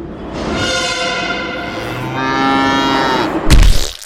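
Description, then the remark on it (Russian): A cow lets out one long, loud, drawn-out moo that wavers in pitch for several seconds, then breaks off into a sudden burst of noise at the end as it is hit by a metro train at Barrikadnaya. No one speaks. “Метрополитен сбивает корову на баррикадной.”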